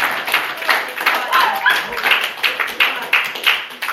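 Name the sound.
audience hand clapping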